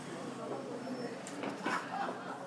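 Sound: door being opened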